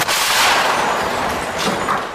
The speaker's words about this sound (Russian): В ночь на вторник небо Газы то и дело озаряли вспышки и были слышны взрывы.